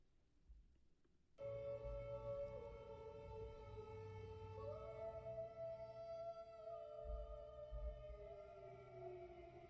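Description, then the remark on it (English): An air raid siren in Ukraine starts abruptly and holds a loud, steady wailing tone, its pitch sliding up slightly partway through and easing back down near the end. “Her voice harmonizing with the air siren in Ukraine went viral.”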